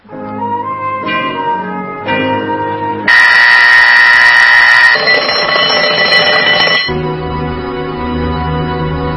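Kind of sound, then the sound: household object, alarm clock ringing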